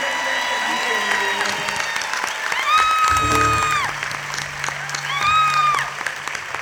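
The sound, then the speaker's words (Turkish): An audience claps steadily throughout in dense, sustained applause welcoming a guest of a band, with a few high gliding whoops and whistles rising above it in two bursts. “Alkışlarınızla ….”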